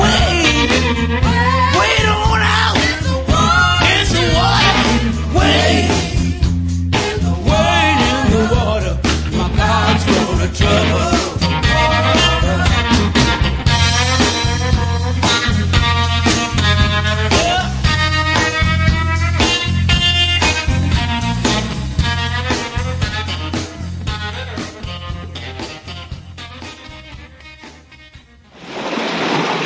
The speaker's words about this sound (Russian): афроамериканский духовный гимн «Идите в воду, дети»